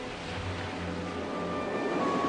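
Heavy sea waves roll in evenly one after another near the shore, where a lone boat is moored, as a steady, continuous wash of surf, moderately loud, with a faint low rumble underneath and no voices.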